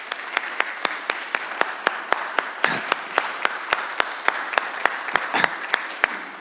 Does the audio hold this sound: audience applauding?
yes